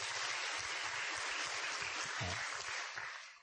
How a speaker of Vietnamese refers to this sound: Chúng ta cho một tràng pháo tay khích lệ ông.